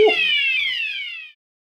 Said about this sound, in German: Ja, liebe Zuhörerinnen und Zuhörer, das war jetzt die erste Live-Feueralarmprobe